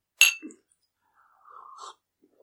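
Glasses clink together once in a bright, sharp toast, followed by a brief soft rustle and, after a pause, a quiet hummed vocal sound.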